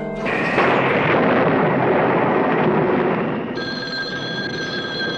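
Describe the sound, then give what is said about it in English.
A loud, rumbling roll of thunder fills the first few seconds, broad and sustained, then fades as a steady ringing telephone tone takes over near the end. No one speaks. “Yes, isn't this some storm? I hope it doesn't wake the baby.”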